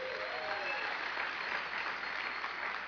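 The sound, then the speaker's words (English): An audience at an evening ministry gathering applauds the people seated on the floor, a dense, continuous patter of many hands clapping that holds steady at a moderate level for about three seconds, with a faint cheer or whistle riding on top. “Those in the back aren't clapping.”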